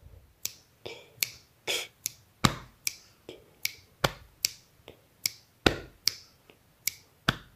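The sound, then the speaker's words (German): Body percussion played on the upper body: a steady, rhythmic drum-kit style pattern of sharp slaps and snaps, with deeper thumping hits on the upper body playing the bass drum part, falling regularly every few beats. No one speaks. “Und dazu kann man beim Body Percussion entweder stampfen. Ich persönlich benutze aber lieber den Oberkörper.”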